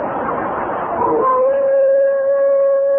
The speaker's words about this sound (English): What in the world is that stuff? Well, that's the coyote's mating call. Mating call? Sure sounds like they hate to get married, doesn't it?